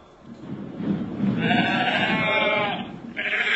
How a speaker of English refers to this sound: For 300 years, these hills have been farmed this way. The peace troubled only by the occasional overprotective sheep.